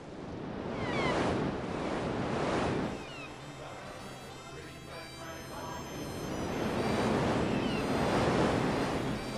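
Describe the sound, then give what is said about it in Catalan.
Sea waves off Scotland surge and wash in broad swells, building to a loud crash, easing off, then rolling in strongly again, with a steady windy rush underneath and no voices. “al timó de la nau, perduts a la immensa mar blava, sols penso en tornar al teu costat.”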